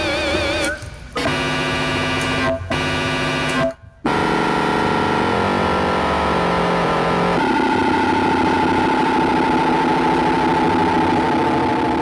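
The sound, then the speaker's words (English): Buzzy analog synthesizer tones with rich harmonics cut out abruptly a few times, then swell into a continuous, dense, droning texture that gradually shifts in pitch and timbre, with no talking. “So this is purely with analog. You can't do this with digital.”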